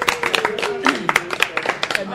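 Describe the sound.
Audience applause: a steady patter of many hands clapping, irregular and fairly loud, with a voice or cheer carrying over it for the whole couple of seconds.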